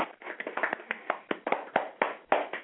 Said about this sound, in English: Give it up, folks. Everybody in the studio clapped. Give it up. Isn't that amazing? Give it up.